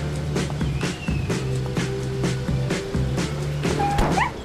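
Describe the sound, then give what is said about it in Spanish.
An injured dog that has been struck by a car barks in a quick, repeated series of sharp yaps, mixed with higher whining whimpers, over a steady low background hum. “Todo con la excusa de cuidar al bueno de Colin, el perro herido.”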